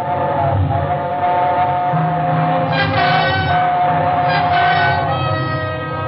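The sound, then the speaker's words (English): A train roars loud through a tunnel in a steady, continuous rumble, while high whistle tones squeal and waver over it, swelling in bursts before fading back into the din. “It was only the train going through the tunnel, but it brought it all back.”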